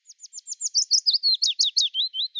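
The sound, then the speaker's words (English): A willow warbler sings a sweet, high cascading phrase of about fifteen clear notes, starting soft and rising in volume, then descending gently in pitch toward the end, with no voices. “So I'm going to play the song of the willow warbler.”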